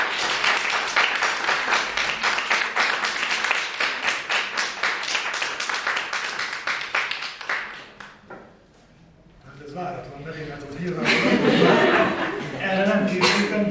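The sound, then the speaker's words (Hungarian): An audience claps loudly in a dense, rapid burst that lasts several seconds after a linguistics lecture, then dies away; afterward scattered voices and a bit of laughter rise. “Úgyhogy szerintem egy nagy tapsot”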